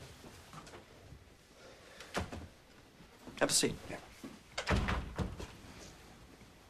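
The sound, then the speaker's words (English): The door of a sound booth at CBS swings shut with a couple of solid thunks and a brief rattle, followed by a short spoken line. “Close the door.”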